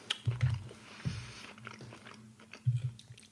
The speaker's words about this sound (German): Naja, aber man hört halt nicht gerne, man hört halt nicht gerne Podcast irgendwie, wo jemand kaut oder jemand isst oder so.